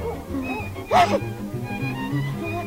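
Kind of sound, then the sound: animal, dogs barking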